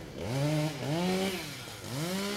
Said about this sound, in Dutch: En met een kettingzaag wordt een hap uit de zieke boom gehaald. Ondertussen er ook een kraan staat klaar met een grijper die de boom gaat vastpakken om te zorgen dat die boom niet over de straat heen valt.